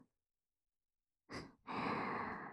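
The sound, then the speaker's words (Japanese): Two airy breaths blown right at the listener's ear to tickle it: a short soft puff, a brief pause, then a longer, steady whooshing exhale. No talking. “これを着てこうしてキューンって腕を抱きしめて思いっきり寄りかかって、お兄さんのお耳吐息でふうふうくすぐっちゃいますね。”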